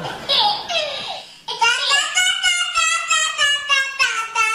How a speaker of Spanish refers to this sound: cierra la puerta que están los niños adentro en el dormitorio. Están conversando la guagua.